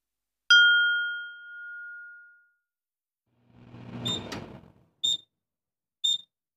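A single bright microwave ding rings out as dinner made in the microwave is ready, fading over about two seconds, followed by a rattling clatter and two short, high-pitched beeps a second apart.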